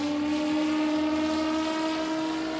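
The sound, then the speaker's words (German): A VTOL drone's rotors give a loud, steady whining hum with a strong, even pitch, growing only slightly fainter toward the end as the aircraft, having risen vertically like a quadcopter, flies off horizontally. No voices are heard. “Oben angekommen fliegt sie in horizontaler Richtung los und schnell ist sie mit bloßem Auge nicht mehr zu erkennen.”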